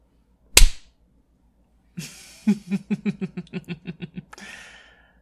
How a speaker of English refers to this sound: Love slapping your ass as you go.